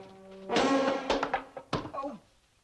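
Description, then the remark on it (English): A low droning tone gives way to a loud, heavy crash as a new wooden pigeonhole cabinet topples from the wall after a cleaner shuts the door, followed by several sharp knocks and a clattering thud as assignment cards scatter over the floor, fading out. “Later, a cleaner shuts the door, and the new pigeonhole cabinet topples from the wall.”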